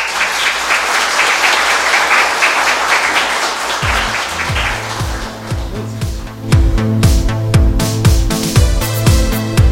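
A crowd applauds with dense, steady clapping for about four seconds, then loud rhythmic music with deep repeating bass notes starts and takes over as the clapping fades beneath it.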